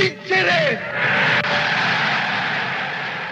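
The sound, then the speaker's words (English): A large crowd responding to Mussolini in June 1940 cheers in a loud, continuous roar that holds steady throughout, with a brief raised voice near the start before the cheering swells. “Just listen to the crowd responding.”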